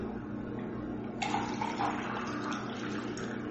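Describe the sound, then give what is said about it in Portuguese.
Water is poured into a glass: a steady, splashy stream begins about a third of the way in and runs to the end over a constant low hum, with no talking. “Deixa eu pegar água, peraí.”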